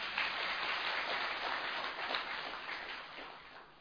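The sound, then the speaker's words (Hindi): A crowd bursts into sustained applause, dense overlapping clapping filling the room at a steady level for a few seconds, with no talking over it. “तालियां तो बजाओ जरा।”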